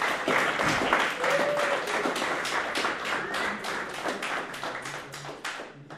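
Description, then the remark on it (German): An audience at a church service applauds the decoration team with dense, steady clapping that continues for several seconds at an even volume, with a faint voice briefly rising above it. “Können wir einen Applaus für die Deko-Team machen, gell?”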